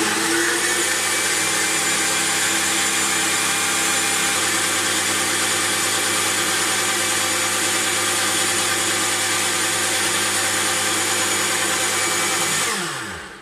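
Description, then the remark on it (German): A kitchen blender mixes food ingredients into a spreadable mass, running loud and steady with a harsh, whirring motor roar for about thirteen seconds, then spins down as it's switched off. No voices are heard. “Und das Ganze, das kriegen wir jetzt zusammen in eine Schüssel und von da schmeißen wir es dann in den Mixer.”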